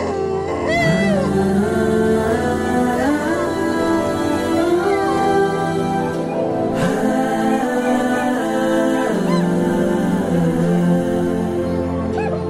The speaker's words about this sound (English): As they drive to the Adams mansion, the stillness of the night is broken by the howling of a dog, the disturbing sound following them up the winding roads of Westville.